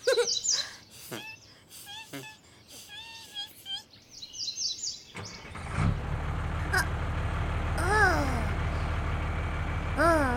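bird, birds calling

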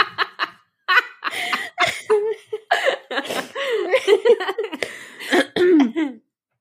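human body sound, coughing

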